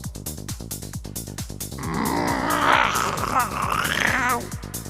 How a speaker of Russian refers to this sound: Прокряхтело над ухом в ответ. Соломон обернулся. На строительных лесах, чуть в стороне от сцены, сидел механический кот